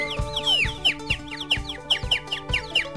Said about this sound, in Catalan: Que ja piulen, és... que ja piulen.